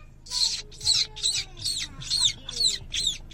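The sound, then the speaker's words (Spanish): Someone makes a quick run of about eight high, squeaky goldfinch kisses, kissing sounds made by sucking air inward through pursed lips, evenly spaced and fairly loud, with no talking. “ahí va la explicación de cómo se hacen los besos de Jilguero. Tienes que poner la boca así.”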